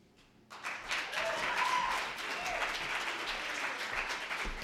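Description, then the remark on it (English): A crowd bursts into steady applause after a brief quiet moment, many hands clapping in a dense, continuous patter that holds at a fairly even level throughout. “Round of applause.”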